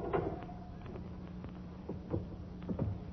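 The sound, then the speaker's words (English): A heavy mausoleum door in a cemetery groans slowly open, a drawn-out low creak with a few scraping bumps along the way, with no voices. “Now, this mausoleum door... it isn't. Isn't it?”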